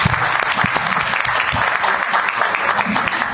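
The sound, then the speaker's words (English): A room full of guests applauding steadily for two participants of a blind leaders program after their public speaking, a dense, continuous patter of many hands clapping at once, fairly loud and sustained without pause for the whole stretch. “And both of these individuals, if you want to give them a round of applause.”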